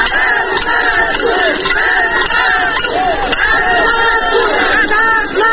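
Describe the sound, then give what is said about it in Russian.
A large crowd of workers from the Molot machine-building plant shouts and chants together at a rally in the town of Vyatskiye Polyany, Kirov Oblast, Russia: a loud, steady roar, many voices overlapping with rising and falling pitch, no single speaker standing out. “Такие митинги в городе Вятские Поляны стали обычным явлением.”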